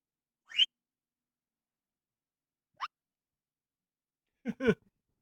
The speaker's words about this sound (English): I have whatever this would be classified as. A whistle.